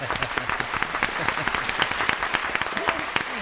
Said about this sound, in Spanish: Nosotros en este programa, cada sábado y cada domingo, dedicamos un aplauso del día a algo excepcional del sector. Este aplauso te lo llevas tú.